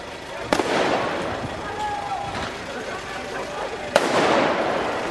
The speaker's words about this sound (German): Es hat eigentlich veritable Strassenschlachten gegeben. Jugendliche, vermummte Jugendliche, wie du gesagt hast, die mit Feuerwerkskörpern und Böller auf die Polizei los sind. Die Polizei, die Wasserwerfer eingesetzt hat.